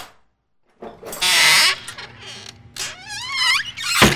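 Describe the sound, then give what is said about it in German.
A door is opened by a butler, swinging open with a long, wavering creak of the hinges, preceded by a burst of rattling noise, then ends with a short thump. Fairly loud, with no voices. “Ein sehr, sehr großer Butler öffnete ihnen die Tür.”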